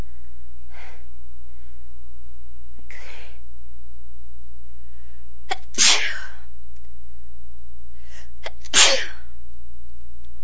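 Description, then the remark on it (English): A person sneezes again and again, with softer breathy bursts building into two sharp, loud sneezes near the end, over a steady low hum. “Sneezing today.”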